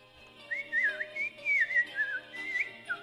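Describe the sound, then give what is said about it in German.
A person whistles a warbling, birdlike melody, imitating the snow-white little bird singing from the hazel tree in the Aschenputtel fairy tale, with quick trills and gliding high notes in short phrases, with no talking. “Das Bäumchen schüttelte sich, das schneeweiße Vöglein sang und warf ein Kleid hinab.”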